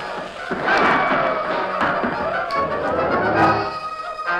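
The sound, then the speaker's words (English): Scattered gunshots crack out every second or so, sharp, over a dense, rumbling background of dramatic noise with no one speaking; Tonto keeps up steady gunfire through a window near the bed in a house under attack. “In the bedroom, the Lone Ranger lay awake and watching Tonto, who maintained a steady gunfire through a window near the bed.”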